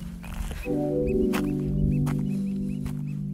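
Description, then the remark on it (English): Oystercatchers pipe in quick, repeated high calls on Portland Island, across the channel from Juneau, Alaska, in the morning, over a steady low droning hum that fills the background throughout. “Those birds you hear are apparently called oyster catchers, and they're pretty annoying. They've been yelling all morning.”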